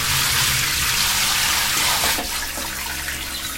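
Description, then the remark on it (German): Steady, loud hiss of a hot shower running in a small bathroom, continuous, with a slight shift in the flow near the end. No voices. “Ich habe mich jetzt ganz heiß abgeduscht und so ein bisschen Wasserdampf hat sich hier auch schon gebildet.”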